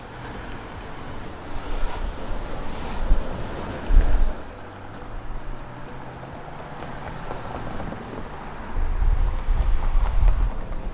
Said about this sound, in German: Und auch die Autos waren nicht schwer zu erraten, oder?